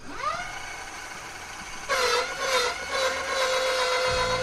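An electric motorbike's motor whines up quickly to a high, steady pitch, then grows louder and harsher as it spins hard on the spot in an attempted burnout, reading about 60; a sustained tonal hum with no voices.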